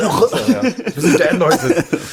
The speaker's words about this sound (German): Ich bin auch, also erstmal da irgendwie fette räuspern wir uns beide mal.